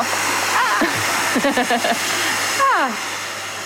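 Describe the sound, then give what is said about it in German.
A corded hair dryer, used to blow warm air on food, blows with a steady, breathy roar that fills the whole clip, while someone talks briefly over the continuous rushing air. “Ach, das ist ein Föhn.”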